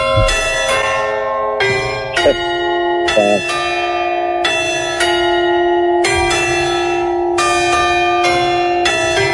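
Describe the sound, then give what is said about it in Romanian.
The Palace of Culture clock tower bells chime the Hora Unirii, giving the exact hour: a slow melody, a steady sequence of loud struck notes at varying pitches, each one ringing on and overlapping the next, with no voices. “Asta e Hora Unirii și dă ora exactă din turnul cu ceas.”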